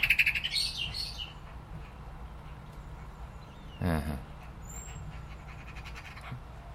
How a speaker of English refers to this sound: Mr. Blackbird disapproves of magpies on adjacent rooftops. No wonder, at this time of the year, they are right buggers. Not the blackbirds, the magpies.